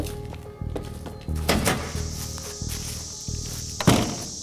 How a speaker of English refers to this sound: Man, the cicadas are pretty loud up here, huh?